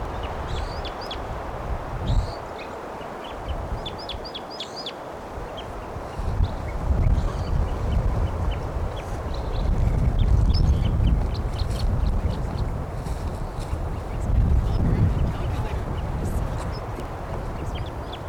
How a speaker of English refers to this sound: Let's stop. Wild bird.